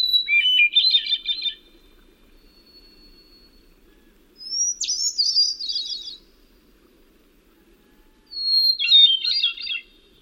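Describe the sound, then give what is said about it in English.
Three separate phrases of rich, melodic thrush song ring out, recorded from a little distance, each about a second and a half long with pauses between, reverberating off the surrounding trees against a quiet background. “Like a thrush sounds best if you back off from it a little bit and get that rich melodic sound bouncing off the surrounding trees.”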